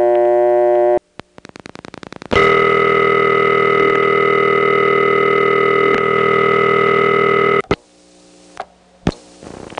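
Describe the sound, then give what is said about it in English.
A steady telephone dial tone on a telephone test line drones, cuts out to a burst of rapid clicking pulses from a rotary switch, then returns loud and continuous for several seconds before stopping, followed by a few sharp clicks. “And what on earth is this circuit doing during that long period of time before the dial tone comes back on?”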